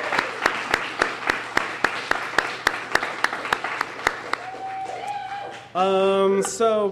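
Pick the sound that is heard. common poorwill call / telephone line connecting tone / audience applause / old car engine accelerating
audience applause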